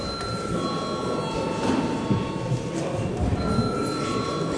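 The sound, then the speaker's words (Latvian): A session bell rings steadily for several seconds in the Latvian parliament (Saeima), a continuous buzzing metallic tone over a low background murmur, holding an even loudness throughout. “Lūdzu, zvanu.”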